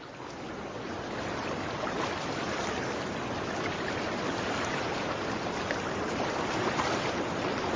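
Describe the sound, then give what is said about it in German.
Steady rushing river water, a dense continuous wash of sound that holds at an even, fairly loud level throughout with no voices, as if heard close to the bank. “In der Nähe konnte sie den Fluss rauschen hören.”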